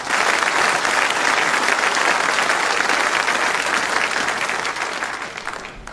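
A crowd claps steadily in a dense, even round of applause that stays loud for several seconds, then thins and fades toward the end.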